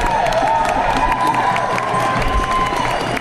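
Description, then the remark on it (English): A large crowd at a protest demonstration claps and cheers steadily, a dense wash of applause with whoops and shouts rising over it, sustained and loud throughout. “Give yourself a round of applause.”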